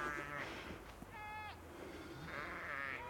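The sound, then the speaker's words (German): Sheep bleat several times in wavering, drawn-out calls, one near the start and another at the end, with a brief higher-pitched cry in between over a steady outdoor background. “Und das ist halt einfach so, man bewegt sich dann irgendwann auf eine bestimmte Art und Weise, die den Schafen halt nicht sehr viel Angst macht.”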